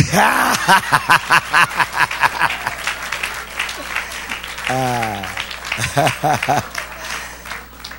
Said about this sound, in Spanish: Hermano, ¿y por qué no me aplauden ahora?